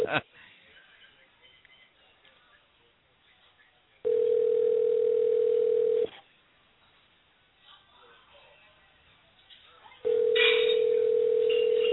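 signal or alarm, telephone dial tone

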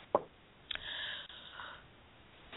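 human body sound, coughing

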